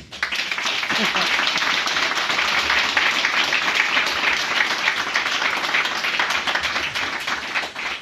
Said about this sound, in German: Das verdient allerhöchsten Respekt und vor allem auch einen fetten Applaus.